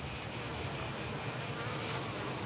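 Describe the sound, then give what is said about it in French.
A dense, continuous drone of many black honeybees, a local strain, buzzing around a hive, steady, with a higher whining layer that gently pulses throughout and no voices. “Vous savez ce que c'est comme abeille? L'abeille noire, c'est de l'abeille de pays.”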